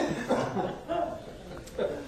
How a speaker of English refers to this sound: Listen to all the coughs going on out there now. Everybody wants that cough drop.